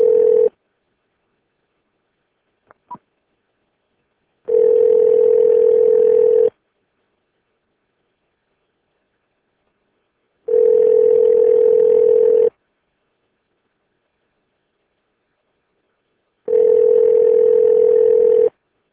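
A steady ringback tone sounds three times while a phone call is being placed, each long electronic burst followed by several seconds of silence, with a faint click near the start and no talking.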